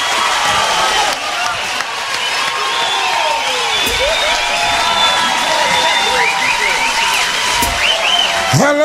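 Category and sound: crowd, audience applause and cheering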